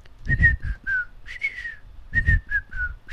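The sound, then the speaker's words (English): A person whistles an imitation of a bird call: three phrases of short, clear notes that slide downward in pitch, fairly loud, with some breathy rumble underneath and no talking. “There's a bird which goes.”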